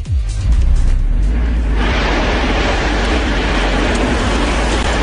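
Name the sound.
strong wind blowing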